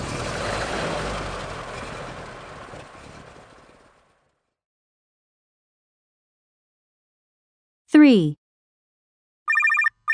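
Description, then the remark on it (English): A boat engine is started on a fishing trip and roars loudly, then sputters and fades away over about four seconds. After a pause come a short descending electronic swoop and a few quick beeping tones. “Quick, start the engine!”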